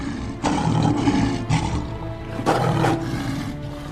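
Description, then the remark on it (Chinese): Lions in a lions' den roar in deep, rumbling bursts, three or so heavy snarls in quick succession over a constant low growl, loud, with no talking. “他们还没有到坑底，狮子就制服他们，咬碎他们的骨头。”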